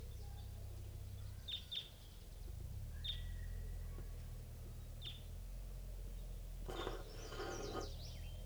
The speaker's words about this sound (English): Recording at 7:11 a.m. And I think I hear a wild crossbill coming in.